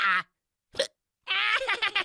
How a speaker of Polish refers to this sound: Dostał czkawkę!